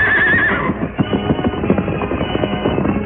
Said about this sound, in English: We'll scatter these horses, Silver, and leave those fellows afoot. Making every move count, the masked man swiftly loosened the reins of the outlaw's horses and sent them galloping away. Away with you! Get on there! Get going!